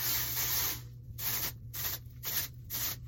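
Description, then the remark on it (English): Aerosol dry shampoo from Not Your Mother's being sprayed into the top of the hair: one longer hissing blast followed by four or five short, quick bursts in a choppy rhythm, with no talking. “Dry shampoo from Not Your Mother's. I freaking love this stuff to death. Also makes my hair smell so good. But I just go in through the top and I spray.”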